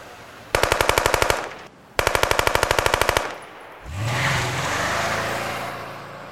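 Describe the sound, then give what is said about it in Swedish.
Two sustained bursts of rapid automatic-weapon gunfire, loud, separated by a brief pause, on a summer evening around 8 pm on a street in central Malmö, Sweden, followed by a grey Saab 9-5's engine revving as it accelerates away fast. “Det är ju ett automatvapen som används, och då blir det ju många skott på kort tid.”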